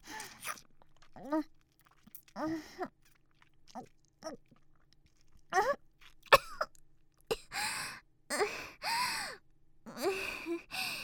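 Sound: coughing fit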